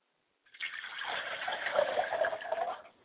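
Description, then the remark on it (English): Liquid is poured out as a libation in honor of Yamanja, the Lady of the River, in a steady, splashing stream for about two and a half seconds, fairly loud, with no voices over it. “we pour libation in honor of Yamanja, the Lady of the River.”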